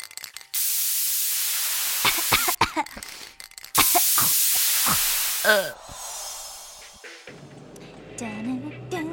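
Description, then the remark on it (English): Two long, loud hissing bursts of red aerosol spray paint sprayed onto a pair of white pumps, each about two seconds, with brief vocal sounds between them, followed by a muffled stretch of background noise and faint voices. “A $30 pair of white pumps from Shoes for Less and a can of red spray paint from the dollar store.”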